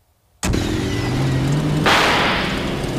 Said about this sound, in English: Boy, that salt really ate through the car. And the exhaust pipe is leaking.